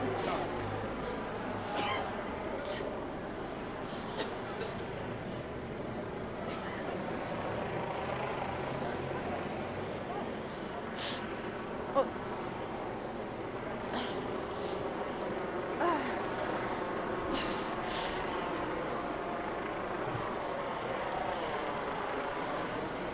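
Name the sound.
helicopter hovering overhead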